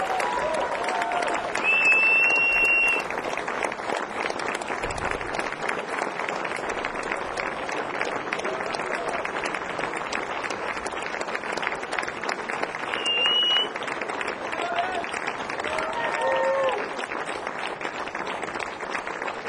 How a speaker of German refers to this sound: Holt sie raus mit einem tosenden Applaus.